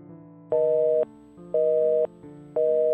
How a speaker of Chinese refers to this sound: 电话打不通，讯息也不读不回。